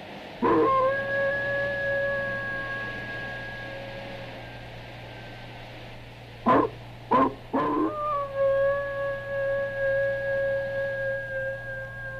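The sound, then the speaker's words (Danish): A long, eerie howl of a ghost dog in a forest holds a steady, wavering pitch over a low constant hum, broken by a few sharp thuds before the howl rises again and trails on. “Hvert syvende år viser den sin savlende flæb, og den stikker i et rædselsvækkende hyl, der vækker rædsel i selv de stærkeste mænd.”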